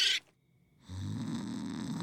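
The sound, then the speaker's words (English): A short hiss, a brief pause, then a loud, raspy snore from a boy rumbles steadily to the end, with no one talking. “That boy can snore through a hurricane.”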